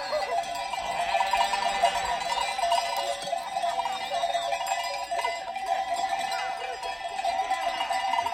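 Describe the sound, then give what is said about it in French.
Basque bells, recorded in Soule in the northern Basque Country, clank and jingle continuously in a dense, overlapping wash of bright metallic tones, steady in loudness throughout, with no voices. “Les cloches du Pays Basque enregistrées en Soule dans le Pays Basque Nord.”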